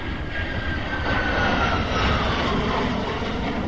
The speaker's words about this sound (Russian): Украинские истребители пролетели совсем рядом.